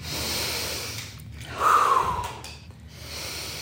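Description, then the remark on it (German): Slow, deep breathing during a breathing exercise, with no talking, rising into one stronger, forceful breath in the middle before easing back to a steady, airy rhythm. “Und jetzt starten wir wieder mit Atmen.”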